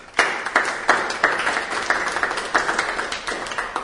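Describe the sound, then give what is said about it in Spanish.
An audience applauds steadily, many hands clapping in a dense, crackly wash with a few sharper claps standing out, sustained at moderate loudness for the whole stretch with no voices. “Y yo, más que eso, quisiera darnos un aplauso a todos nosotros por estar aquí presentes.”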